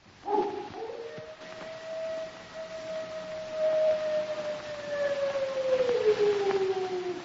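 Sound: wolves howling at night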